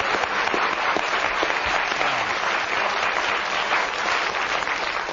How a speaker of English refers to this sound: You can give him a round of applause for what he said.